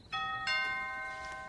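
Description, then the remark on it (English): A two-note doorbell chime sounds clearly, a bright ding then a dong, each tone ringing on and slowly fading. No voices, just the chime. “I'll get the door.”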